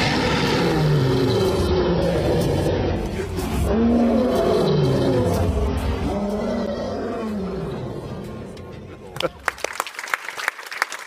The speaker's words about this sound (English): It is The Lion King. It is the moment at the end when Simba climbs Pride Rock to assume his place as king for the final roar.